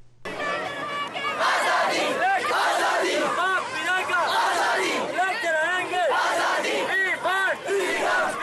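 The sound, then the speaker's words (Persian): A large crowd of over 1,000 student protesters marching in Muzaffarabad, Pakistan-controlled Kashmir, chants "we want freedom" in loud, rhythmic unison, condemning human rights abuses in Indian-controlled Kashmir, many voices rising and falling together in a steady, repeating cadence throughout. “اعتراض کنندگان با سر دادن نعره‌های ما آزادی می‌خواهیم نقض حقوق بشری را در کشمیر تحت کنترل هند تقبیح کردند.”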